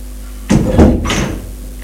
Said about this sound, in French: C'est un salon Louis XV avec une tapisserie rose. Une autre porte est ouverte.